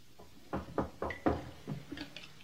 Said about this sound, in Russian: В один из таких зимних, холодных вечеров, когда хуторянин Евсей со своим семейством сидел за столом и ужинал, вдруг кто-то постучал в ворота.